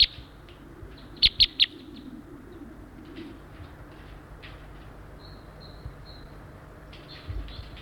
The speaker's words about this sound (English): Oh my gosh, there's about three birds here right now.